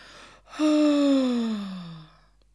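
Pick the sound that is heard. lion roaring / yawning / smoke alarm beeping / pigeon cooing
yawning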